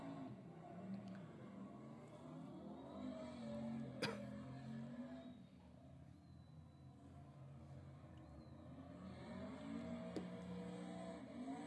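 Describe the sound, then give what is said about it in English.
The 1,000-horsepower engine of a pickup truck built into a drift truck revs hard and continuously, its pitch climbing and falling in repeated surges, with sharp pops cutting through the roar. The sound is loud, with no voices. “Dave actually built a truck that they turned into a drift truck”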